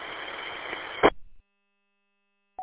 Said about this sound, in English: I can hear you in there partially, but I'm just getting mostly static.